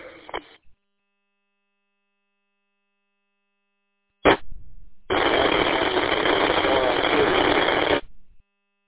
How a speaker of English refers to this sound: Yeah, if there's a station trying to come in, it's coming in real rough. I can't discern what you're saying.